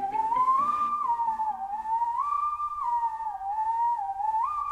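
A clear whistled melody glides smoothly between a few pitches, carrying steadily over a faint, low instrumental loop made in a living room and played by the whistler, with no one talking.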